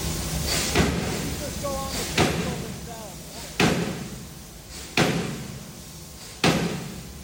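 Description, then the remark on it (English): A massive 5,000-pound industrial power hammer forging iron strikes five times in a steady rhythm, each heavy, booming slam about a second and a half apart over a constant machine rumble, with brief murmured voices. “That's a 5,000-pound hammer.”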